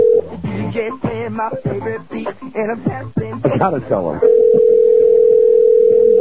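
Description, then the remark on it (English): A steady, even telephone tone hums under overlapping talk, then sounds alone for the final two seconds, like a call ringing through on the line with nobody picking up. “Was he not gonna pick up his phone?”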